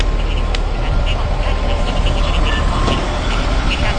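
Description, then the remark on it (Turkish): A city bus idles and rumbles at a stop, its deep, steady engine noise filling the street, with faint indistinct voices and street sounds in the background. “Evet, bir otobüs daha geldi.”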